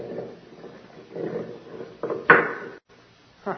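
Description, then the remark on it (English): A heavy stone door with a ring in it drags open with low grinding scrapes, then a sharp, loud thud. After a brief silence comes one more short bump, with no one speaking. “There's a stone door with a ring in it.”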